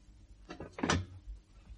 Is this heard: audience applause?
no